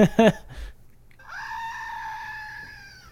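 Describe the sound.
A little screaming goat statuette toy, made to scream during a recording, lets out a long, loud, nasal electronic scream lasting nearly two seconds, preceded by a brief burst of human vocalizing and a few handling clicks.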